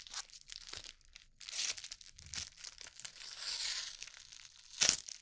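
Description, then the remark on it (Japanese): The crinkly plastic wrapping of an onigiri is torn and peeled open in several bursts of rustling and crackling, ending with a sharp rip near the end. No one speaks. “私おにぎり開けるのめちゃくちゃ下手くそ。”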